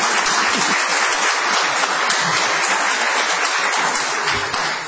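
A crowd breaks into sustained applause, a dense, steady wash of many hands clapping at full volume for the whole stretch, with no voices standing out above it.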